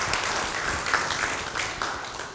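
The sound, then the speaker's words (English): A crowd applauds steadily for someone who rescued two people who fell out of their boats at a sailing club. It is a dense wash of many hands clapping at once, with a few sharper claps poking through, holding a fairly even loudness throughout. “I think that deserves a round of applause, doesn't it, everyone?”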